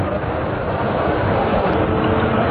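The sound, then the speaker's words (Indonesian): A steady rumble of a passenger train departing Jogja station at 7:15 in the evening, dense low roar and rattle holding at an even loudness throughout, with no voices. “Kereta pun pergi menjauh dari stasiun Jogja.”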